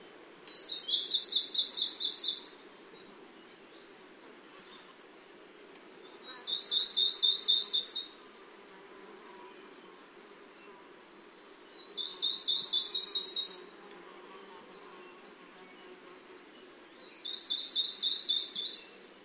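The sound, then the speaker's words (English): An Akikiki sings four short, rapid, high-pitched trilled phrases, evenly spaced about five seconds apart with quiet pauses between, over a faint steady background hum; recorded in March as a pair builds a nest. “Here is an Akikiki song of four phrases recorded in March as a pair build a nest.”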